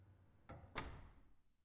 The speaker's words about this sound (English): Here. Now the door's closed. No one will bother us now.